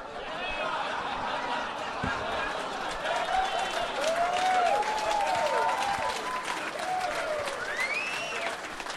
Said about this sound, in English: I've never heard that many people applaud cancer before.